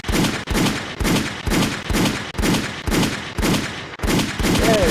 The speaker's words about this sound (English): I got some gunshots for that.